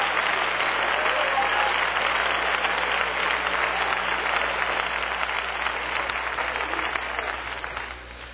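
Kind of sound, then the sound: crowd, audience clapping hands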